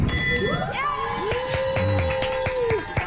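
A bell rings with a rapid series of bright strikes while a crowd cheers and whoops loudly around it, voices rising and sliding in pitch.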